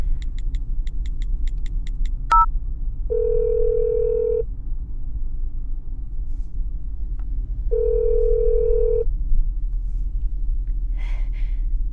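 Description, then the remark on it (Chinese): A phone's ringback tone sounds twice, each long burr separated by a few seconds of quiet, after a quick keypad beep, all over a steady low rumble with no one answering or speaking. “怎么没人接电话呀？”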